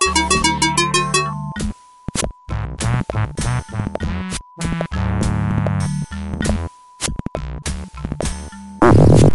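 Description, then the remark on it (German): A synthesized video game fart effect made by a giant, dumb-looking green fish swimming past in the game: a run of buzzy, stuttering electronic bursts with rapid pulsing at the start and a steady thin tone running underneath, ending in a louder low rumble. “Das war der Furz-Sound übrigens.”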